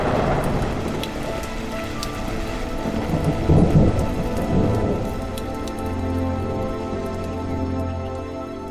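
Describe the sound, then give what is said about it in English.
A thunderstorm rages with steady heavy rain hissing on surfaces and deep rolling thunder rumbling through, swelling in the middle before settling into a low continuous roar. “The storm's over.”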